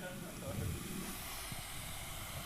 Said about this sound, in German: Wo kommen eigentlich die Geräusche her bei so einem Wasserkocher? Das versucht der Clown gerade rauszufinden.